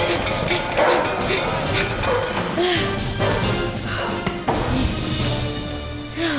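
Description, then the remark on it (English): Several dogs, just let out, bark repeatedly and overlap in a loud, frantic chorus against a dense, noisy background, with occasional thumps and yips breaking through. “They let the dogs out!”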